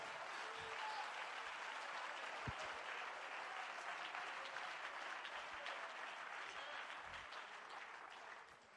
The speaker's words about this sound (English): But I press. Come on, clap your hands. Somebody ought to shout hallelujah.